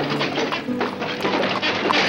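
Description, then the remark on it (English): The wooden wheels of a peddler's wagon coming up a road roll in a steady, loud rumbling clatter, with irregular knocks and creaks throughout and no voices. “That was when they heard the wooden wheels of a peddler's wagon coming up the road.”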